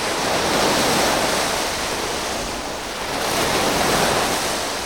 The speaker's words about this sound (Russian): Ну вот, к примеру, звук морского прибоя или шум дождя – это как раз такие мирные предсказуемые звуки или пение птичек.